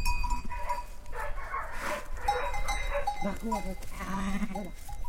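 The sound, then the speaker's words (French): A flock of ewes and lambs, just let out into the pasture nearest the farm, bleating repeatedly outdoors with overlapping calls, with faint bells clinking in the background. “Vous venez de sortir les brebis et les agneaux dans le pâturage le plus proche de chez vous.”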